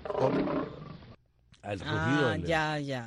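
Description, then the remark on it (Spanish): A lion roars twice, loud: first a rough, grating burst, then after a short silence a longer, throaty roar that swells and falls in pitch. “El rugido del león.”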